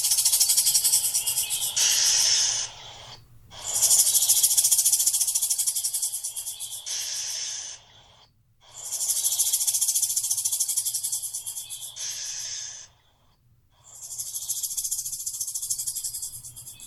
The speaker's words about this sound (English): You ever hear a rattlesnake hiss?